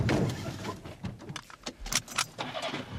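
Keys jingle and clink as someone climbs into a car, with a door thudding shut amid shuffling and rustling inside the vehicle.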